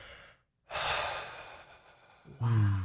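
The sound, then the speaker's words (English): A voice imitates audible breathing: a short breath, a pause, then a long, loud airy exhale that ends in a brief voiced sigh. “And as I'm looking at the face of Jesus, I hear this like audible breath breathing over me. And it literally sounded like this.”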